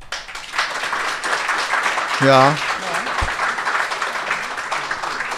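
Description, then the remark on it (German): Steady, moderate, polite applause from an audience rating a writing tip runs through the whole clip, a dense even patter of many hands clapping, with a single short spoken word rising briefly over it partway through. “Ja, das ist höflicher Applaus.”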